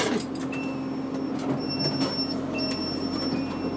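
Train doors slide open over a steady low rumble of a stationary carriage, with thin high-pitched electronic tones sounding in bursts; no one speaks.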